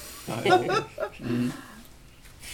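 Dogs bark and growl at each other in two short bursts of harsh, rumbling vocalizing, followed by a quieter pause.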